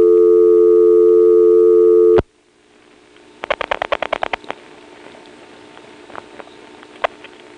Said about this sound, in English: Well, selector noise, and we're on the first selector, which does not have a dial tone. Because at least in this group of lines, and possibly the entire office, the dial tone always comes from the touch tone converter.